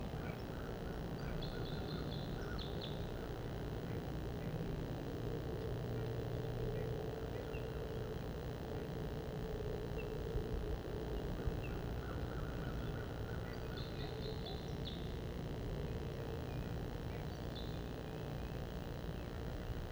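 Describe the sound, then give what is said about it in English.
Wild purple finch and crossbill song comes in a few short, high warbling bursts, spaced several seconds apart, over a steady low outdoor rumble, recorded on Ridgetop Road facing south. “Purple finch and crossbill song. Wild birds.”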